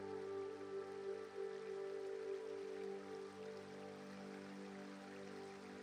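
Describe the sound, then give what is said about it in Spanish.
A river flows with a steady, even rushing hiss that never breaks, kept soft and low, with a faint sustained tonal hum beneath it and no voices. “Echas a andar a orillas del relajante río.”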